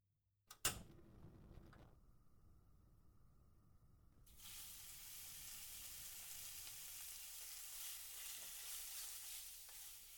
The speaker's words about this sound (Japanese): ああ、美味しそうな匂い。ジュージュー言ってる。あったかいご飯。久しぶりのあったかいご飯。